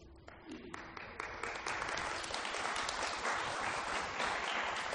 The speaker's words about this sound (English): Now you must understand that clapping is an American way of saying amen. Otherwise it's incomprehensible.